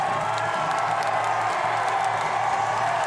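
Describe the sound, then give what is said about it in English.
A large crowd of demonstrators in Glasgow, Scotland cheers loudly and continuously as authorities release two men who emerge from a van after seven hours, a dense wash of shouts and whoops filling the space without pause, with faint clapping mixed in. “Eventually, authorities released the two men, who emerged from the van to the cheers of the crowd.”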